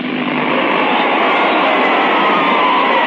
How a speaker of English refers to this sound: Just the sound of some of the crowd enjoying their evening at the Carntyne Stadium.